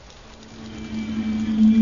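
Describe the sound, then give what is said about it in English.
Steady rain pours down in a continuous hiss, while a low droning hum grows gradually louder beneath it. No one speaks. “Under pouring rain, the port of Bagsha on the planet Nimdrovus crawled with troops.”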